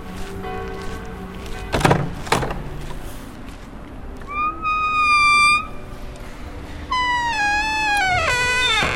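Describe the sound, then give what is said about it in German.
A heavy, wide door of dark solid wood in a stone frame, with a pointed glass window above it, swings open into a chapel on a university hospital's grounds: a couple of sharp latch clunks, then long, high, wavering hinge creaks that rise and fall in two drawn-out stretches, fairly loud. “Die Tür mache ich jetzt mal auf.”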